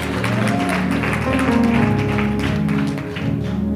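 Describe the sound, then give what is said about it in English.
A church audience claps their hands for the Lord in a steady, dense wash of applause that holds loud for a few seconds, with a murmur of voices and some background music underneath. “Give the Lord a great hand clap.”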